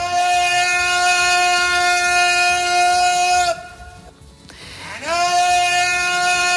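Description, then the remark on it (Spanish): Sound of a butane delivery man (butanero) in orange overalls on his rounds, delivering butane gas cylinders door to door and calling out "Butano": a loud, steady, buzzing horn-like tone holds for several seconds, breaks off briefly, then slides back up in pitch and continues. No one speaks. “El sonido del señor Butanero, vestido con el mono naranja, ¿te acuerdas?”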